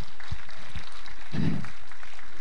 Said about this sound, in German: Gib mal ihm mal einen Applaus.